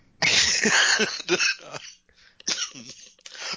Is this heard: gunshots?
no